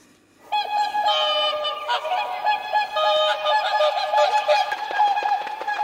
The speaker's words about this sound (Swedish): En liten sångsvanfanfar tycker vi det är värt det där då.